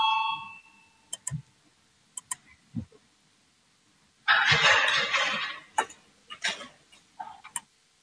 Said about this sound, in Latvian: Lūdzu, zvanu, balsosim par 134. deputāta Valainiņa priekšlikumu.